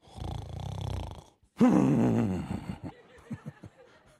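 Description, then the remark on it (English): A voice imitates a tired man's horse-like snore: a low, buzzy rasp, then a loud snorting blast that trails off into a string of sputtering, lip-flapping pulses. “Maybe he was like, that's, or he could have had one of them horse snores going. That's one of them.”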